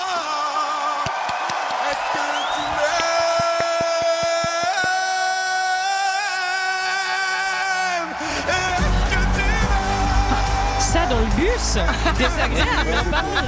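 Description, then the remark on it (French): A loud pop-rock song with powerful, shouted-sounding vocals holding long notes over steady beats, the mix turning fuller and rougher in its second half. “on dirait …”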